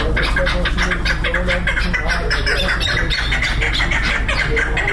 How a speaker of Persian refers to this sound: در نزدیکی مرغ بازار شهر شبرغان سرایی واقع است که لحظات بعد در این سرای کپ جنگی آغاز می‌شود. در اینجا صدای پرنده‌ها توجه رهگذران را به خود جلب می‌کند.